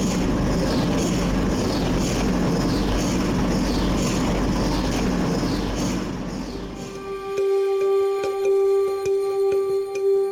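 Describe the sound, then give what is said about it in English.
A hospital MRI scanner, a big white cylindrical machine, makes its pulsating noise: a loud, rushing mechanical whoosh with a steady repeating rhythm, then a switch to a sharp, humming electronic tone broken by regular knocking pulses. “In the middle of the room is a big white cylindrical machine that makes this strange pulsating noise. It almost sounds like it's breathing.”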